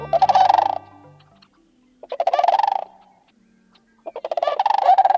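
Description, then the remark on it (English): A flock of sandhill cranes bugles as it glides over a grassy field at the end of a day's journey on its annual migration, in three loud, rolling bursts of rattling, trumpeting calls, each about a second long and separated by short pauses, with several birds calling together and no voices present. “Listen again as a flock of sandhill cranes glides over a grassy field to end their day's journey on their annual migration”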